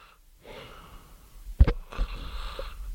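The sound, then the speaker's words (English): A person imitates a snore: a drawn-out, raspy inhale ending in a sharp, loud snort, then a heavy breathy exhale, with no talking. “Your snore. My snore?”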